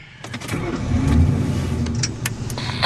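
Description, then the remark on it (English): A police car's engine rumbles steadily for a few seconds as a young police officer gets into the car, its low drone swelling slightly midway, with a few faint clicks and knocks on top and no one talking. “The young cop gets into his car and picks up his police radio.”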